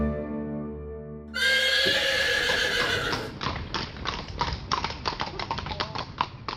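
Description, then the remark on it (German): A horse gives a loud, high whinny, then its hooves clip-clop in a steady rhythm on a hard surface after a low tonal drone at the start. “Auf dem Pferd.”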